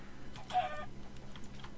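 A video game chicken lets out a short, agitated cluck, followed by a few fainter clucking sounds over a low, steady background hum.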